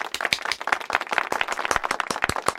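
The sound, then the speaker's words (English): A steady burst of applause, many hands clapping in dense, irregular bursts at a fairly loud, even level for a few seconds, with no voices standing out. “Make that applause a little bit bigger.”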